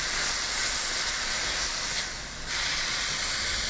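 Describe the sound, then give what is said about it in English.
A pan sizzles steadily as liquid cooks off, a continuous bright hiss with a slight dip midway and no voices. “You can hear this shift is now, instead of sort of a steamy sound, now we've got some actual sizzling.”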